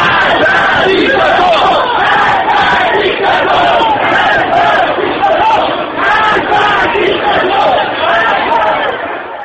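A crowd of women shouting together at a street protest, a loud, dense wall of overlapping voices with rising and falling cries that keeps going without a break.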